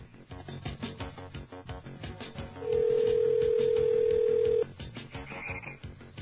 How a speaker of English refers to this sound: And he should have arrived right about now, so we're dialing his number and about to enter the secret long-distance code, which we won't play over the air.